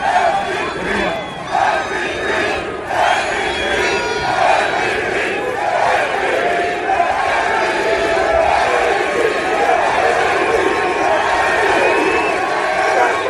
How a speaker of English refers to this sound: And I cannot give you a number of how many Eagle fans are at that game, but it was enormous, yes. And you could tell by this chant. Listen.